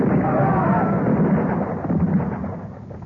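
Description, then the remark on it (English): A volley of musket fire from soldiers, fired on the command "Fire!", roars out as a dense, crackling rumble that holds steady for about three seconds before easing slightly, with faint cries mixed into the din. “All right, soldiers, match ready. Present. For God of vengeance, give him blood to drink. Fire!”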